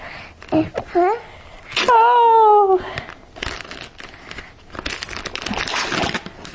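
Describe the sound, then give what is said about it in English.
Wrapping paper is ripped and crinkled off a special present, a book about a firefighter, in several rough bursts as a child and an adult open it together, with the child's voice and the adult's drawn-out exclamation mixed in. “Here, you want to pull? Pull the paper.”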